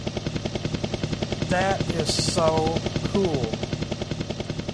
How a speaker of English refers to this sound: There it goes. That's the helicopter.